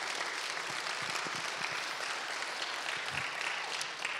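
A crowd claps in a steady, dense wash of applause that stays loud and even for the full four seconds, with no voices rising above it.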